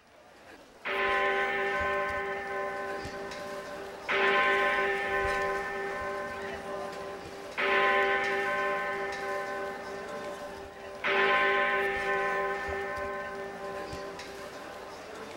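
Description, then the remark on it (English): A clock strikes the hour with four slow, deep bell tones, evenly spaced about three seconds apart, each one ringing loudly and then fading into a long resonant hum. “Clock and no sign of the doctor.”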